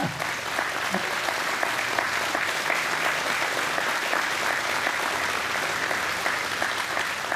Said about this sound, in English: But we've talked about …, and I've talked about him, and there's a lot of praise. But how about giving … some applause?